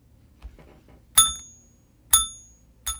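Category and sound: sound effect, bell ding sound effect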